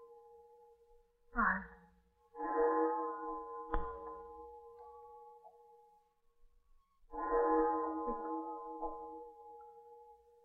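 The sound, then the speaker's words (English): Big Ben's bell chimes the hour over the city in a few slow, resonant strokes, each leaving a long ringing tail, over a faint steady hum, heard very close from a flat within sound of it. “To stand by the window and count the strokes chiming over our city.”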